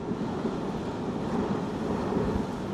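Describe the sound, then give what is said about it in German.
A small mountain train, the Bärnli to Grindelwald, winds through the valley and climbs slowly toward the Eiger, Mönch and Jungfrau: a steady rumble, a continuous low mechanical drone with faint rattling and airy hiss on top, even in loudness throughout and with no voices. “Das Bärnli nach Grindelwald schlängelt sich durchs Tal, steigt langsam, kommt der gewaltigen Kulisse von Eigermönch und Jungfrau immer näher.”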